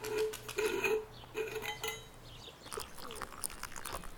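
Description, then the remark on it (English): Decaf coffee is poured into a spare cup: a few ringing ceramic clinks as the cup is handled, then a steady, splashy trickle of liquid for the last couple of seconds, with no voices. “I have a spare cup that I put water in sometimes. You can use that.”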